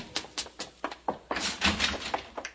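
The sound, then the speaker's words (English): A quick run of hollow thumps leads into a noisy burst of rattling and banging as a door is slammed shut, with a few more knocks trailing after. No voices. “haven't I told you not to slam the door?”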